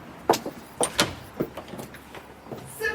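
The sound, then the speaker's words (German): The dark green front door of a restored villa is handled: a few sharp clacks and knocks of a latch and handle, then a brief rising creak or slide as it swings open, with no one speaking. “Dunkelgrüne Fenster, eine dunkelgrüne Tür und ich vermute, hier geht's auch gleich rein.”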